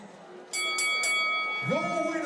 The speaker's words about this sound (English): Well, you heard the bell there, because as I'm sure you'd agree,